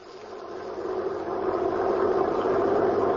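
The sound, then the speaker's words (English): A prison truck carrying four prisoners in its rear cage drives along a road to a prison farm, its engine a steady, broad rumbling drone that swells slightly louder and stays continuous throughout, with no voices. “The prison truck was driving along the road.”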